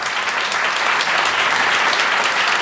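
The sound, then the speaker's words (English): An audience claps steadily in answer to a poll on whether they have watched a video, a dense wash of many hands that stays loud and even for a couple of seconds with no voices over it. “I would like to find out by audible clapping if you have watched the video or not watched the video.”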